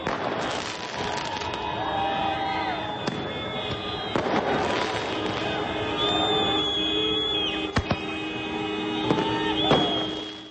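Thousands of Albanians celebrate the declaration of independence in the streets on Saturday evening, carrying flags of Albania, America, Britain, the EU and NATO: repeated fireworks bangs and crackles over a steady crowd roar, with long car horn blasts sounding again and again for hours.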